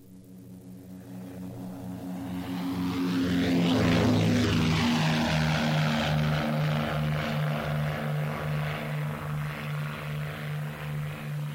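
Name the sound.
airplane flying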